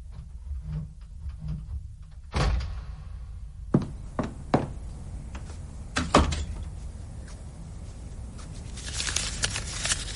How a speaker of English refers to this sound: You have to pull the front door hard.